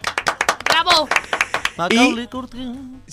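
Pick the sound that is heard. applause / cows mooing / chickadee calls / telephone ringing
applause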